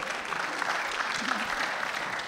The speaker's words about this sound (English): My Father's Day present, my daughter and son came to church with me. Hey. We can applaud that. That's all right. Come on, folks.